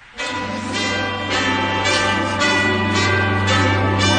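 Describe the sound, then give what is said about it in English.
A bright, ringing doorbell chime plays loudly, its tones striking in a steady repeating rhythm over a sustained humming note, with no voices. “And I've got the doorbell to prove it.”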